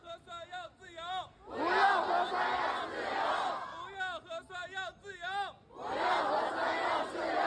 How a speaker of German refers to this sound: Die Proteste wurden lauter, nachdem die Polizei die Straße abgesperrt und Barrikaden errichtet hat. In drei Reihen hintereinander stand die Polizei einer Menge von hunderten Menschen gegenüber.